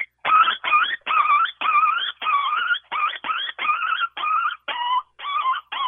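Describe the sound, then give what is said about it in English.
An imitated coyote pup distress call blown on a call, meant to sound like a pup getting beaten: a rapid string of about a dozen high, wavering yelps and whines, loud, repeating steadily with short gaps and no talking. “Just supposed to sound like a coyote that's kind of getting his butt beat, and he's kind of a pup, and his parents don't like that sound.”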